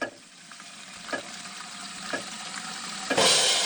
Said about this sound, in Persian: دست نگه دارید. بهتر است بدانیم در طول 20 ثانیه که آب باز است حدود 6 لیتر آب مصرف می شود. در طول 20 ثانیه که دستهایمان را به مایه دستشویی آغشته می کنیم فقط زمان نیست که از دست می رود، بلکه آب نیز هدر می رود.